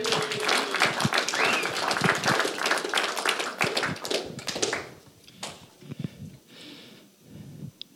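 An audience breaks into dense, steady applause, many hands clapping loudly for about five seconds before it quickly thins out to a few scattered claps and fades.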